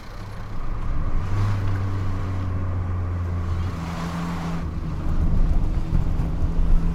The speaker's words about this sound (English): He starts the car and drives off.